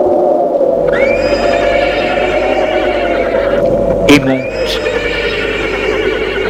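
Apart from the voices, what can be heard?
horse neighing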